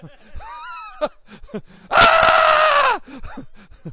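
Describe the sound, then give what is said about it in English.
A voice imitates a panicked scream: one loud, sustained, high-pitched shriek lasting about a second, with brief vocal sounds before and after it. “She said when she saw the bone in his arm, she just started screaming and running in circles.”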